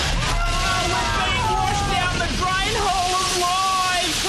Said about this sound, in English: Claytron and Plastic Roy's heartfelt underwater reunion was cut short as someone pulled the plug out of the ocean. We'll be swept away!